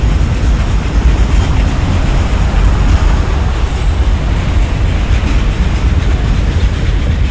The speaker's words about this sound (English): I don't know if that train is stopping. That's going to be interesting.